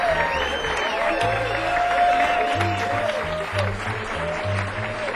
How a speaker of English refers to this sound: give another big hand.